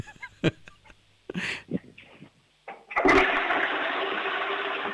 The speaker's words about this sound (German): Wow, ihr habt aber eine laute Klospülung. Das gefällt mir. Das mag ich. Super.